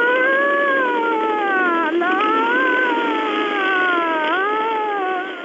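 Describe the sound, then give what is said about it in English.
A person's voice imitates a police siren, producing a loud, continuous wail that slides up and down in pitch, with two quick swoops partway through, and no talking alongside it. “This is … saying so long, asshole.”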